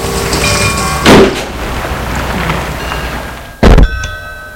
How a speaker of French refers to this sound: Elle a fermé la porte derrière lui.